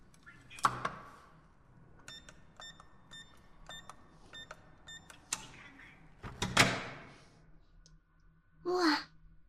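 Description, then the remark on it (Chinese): A string of short electronic beeps as keys are pressed on a door keypad, then a mechanical click and a louder clunk as the lock releases and the door opens, followed by a brief breath. “密码是我的生日吧？好，我开门啦。”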